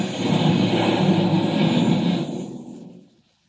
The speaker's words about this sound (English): There. I crashed the planes.